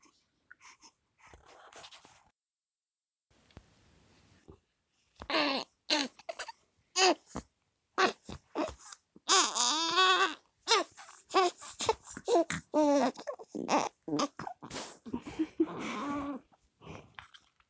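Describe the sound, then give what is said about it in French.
After a few quiet seconds with faint rustles, a baby starts crying, loud wavering wails coming in choppy bursts that continue to the end. “Interstice de calme au milieu des pleurs.”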